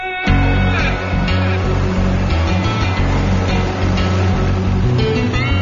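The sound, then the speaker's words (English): A small tractor's engine labors steadily and loudly at its maximum, its low rumble straining under load with a constant scraping roar. It pushes snow off a 4,000-foot runway with a plow designed for walking paths. No voices are heard. “This little tractor is right at its max pushing.”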